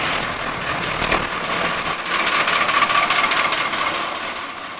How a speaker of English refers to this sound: I'm going to start this engine up.